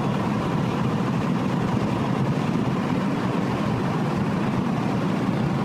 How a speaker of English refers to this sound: And that's a big truck. Yeah. He's getting way too close.